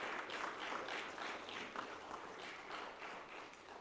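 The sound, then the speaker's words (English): A church audience applauds steadily throughout for women standing during a morning service, a dense wash of many hands clapping at once, with no voices standing out. “May we have a round of applause for these ladies.”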